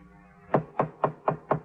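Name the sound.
knocking on a door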